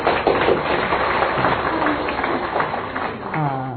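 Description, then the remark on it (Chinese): An audience claps steadily for a few seconds in encouragement of a woman willing to be a mother in every lifetime, a dense, continuous patter, with a voice or two rising over it near the end. “哦，好，我们给他掌声鼓励。”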